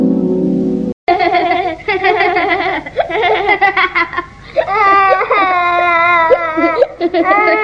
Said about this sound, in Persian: ده ده نگاه کن، داره گریه میکنه.